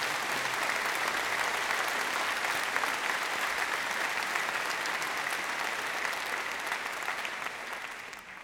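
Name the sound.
audience applause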